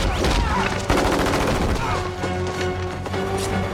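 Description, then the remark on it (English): A dense burst of rapid gunfire as a character picks up a weapon and starts shooting at soldiers, with a sharp crack about a second in, followed by loud, continuous shooting over a steady droning tone and some shouting. “Enju finds a weapon and starts shooting.”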